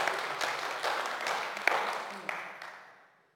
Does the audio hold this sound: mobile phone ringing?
no